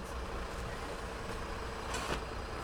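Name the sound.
bus arriving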